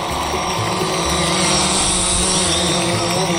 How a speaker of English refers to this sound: Our drones are engineered to fly at legalish altitudes and follow a highly advanced flight path. Point A to somewhere vaguely in the direction of point B.